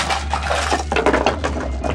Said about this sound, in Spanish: Escuchan el ruido de cadenas que golpean contra una puerta metálica.